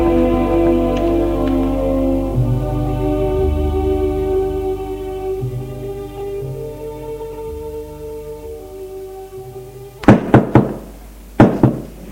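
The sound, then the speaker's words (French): After a long stretch of sustained, droning musical tones, two quick bursts of firm knocking by a woman on her husband's office door ring out loud near the end, a few raps each. “La mère, une fois avoir couché sa fille, va frapper au bureau de son mari.”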